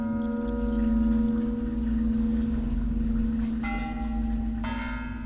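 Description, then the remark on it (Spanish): Village church bells peal continuously, rung at 8 at night in early October in preparation for the Day of the Dead, with a steady, resonant hum underneath, and fresh strikes ring out near the end, layering bright metallic overtones over the sustained ringing. No voices are heard. “Aunque los preparativos para esperar a los muertitos comienzan a partir de los primeros días del mes de octubre con el repique de las campanas o rogación a las 8 de la noche.”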